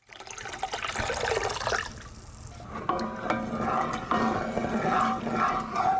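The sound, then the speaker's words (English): Water gushes steadily into a big copper brewing vat at the Black Horse Brewery in the Magaliesberg region, Gauteng province, for a couple of seconds during mashing. Then comes sloshing and splashing as the mixture is stirred with a giant wooden paddle, with scattered knocks and a faint metallic ring. No one speaks. “pours water into a big copper vat and stirs the mixture with a giant wooden paddle.”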